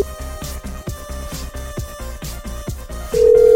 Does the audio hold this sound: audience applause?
no